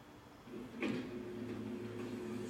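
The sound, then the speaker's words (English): A hardware store door opens with a sharp clack partway through as an old lady comes out, followed by a steady low mechanical drone that carries on to the end, moderately loud, with no voices. “It's an old lady coming out of a hardware store. Have a good night. Gloria going in, and the door won't open for her”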